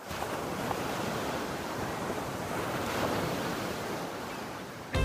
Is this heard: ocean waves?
yes